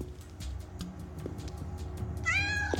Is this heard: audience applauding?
no